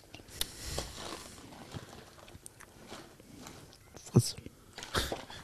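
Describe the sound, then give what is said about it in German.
Crunchy chewing of honey-coated, salted nuts, irregular bites and grinding with a few sharper crunches, quiet, with no one speaking. “Das ist, wer immer noch auf, also wer auf diese Idee kommt, Nüsse mit Honig zu überziehen und dann Salz drüber zu schütten, ist einfach, hier gehört für mich, einfach eingesperrt.”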